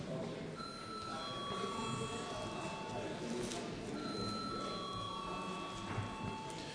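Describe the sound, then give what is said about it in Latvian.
A parliament voting bell rings before a vote on a bill amending the law on financing of political organizations (parties) in its second reading, in two long, steady electronic tones, each lasting a few seconds, over a constant murmur of voices and movement in the chamber. “Lūdzu zvanu.”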